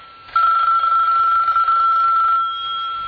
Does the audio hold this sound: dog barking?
no